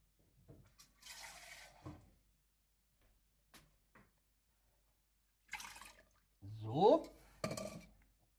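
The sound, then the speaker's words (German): Water splashes and pours into a pot for a second or two, with clinks of kitchenware and rustling before it; a rising gurgling pour near the end. 125 milliliters of water are added to a pot already holding two lemon slices. “Und dann kommt noch 125 Gramm Wasser rein. Natürlich nicht 125 Gramm Wasser, sondern 125 Milliliter Wasser.”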